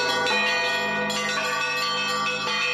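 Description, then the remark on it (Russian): Several church bells peal together over the old town of Tikhvin, Russia, calling people to prayer, in a dense, ringing wash, new strikes landing every second or so over long, overlapping resonance. Loud, with no voices. “Как и 179 лет назад, над древним Тихвином стоит перезвон. Благовест созывает людей к молитве.”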